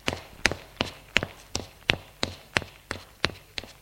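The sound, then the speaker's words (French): Footsteps of the uncle climbing a flight of stairs to the upper floor of a house: about eleven crisp, even treads in a brisk, steady rhythm, each a sharp tap with a slight thump, with no voices. “L'oncle monte à l'étage.”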